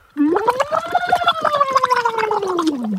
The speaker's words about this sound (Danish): Så skulle jeg proppe det ned i et lille glas vand. Ja. Sådan her. Ja. Det gør sådan her. Er klar? Så ja. Puster du ned i det.